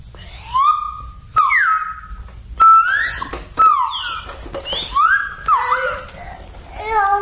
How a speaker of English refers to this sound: And I'm playing the whistle.